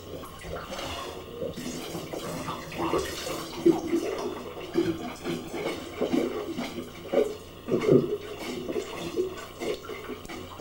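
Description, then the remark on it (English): Water churns and splashes steadily in a bathtub as someone pumps the water and bubbles come out, a continuous rushing with irregular louder sloshes, while voices murmur faintly underneath. “I got to make a water pump.”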